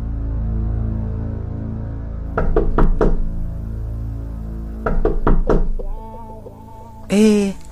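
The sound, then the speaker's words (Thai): Two quick rounds of firm knocking on a bolted room door, each about four raps, loud over a low background hum, followed by a brief voice-like sound. “ทำไมสักล็อกประตูห้องล่ะจะเข้าส้วมล็อกลูกบิดเฉยๆก็พอแล้วนี่นานี่มันใส่กรอนไปด้วยเฮ้ยๆเปิดประตูไว้เพื่อนเฮ้ยเขาแรงมาแล้วมันไม่เคยล็อกกรอนแบบนี้นี่นะ”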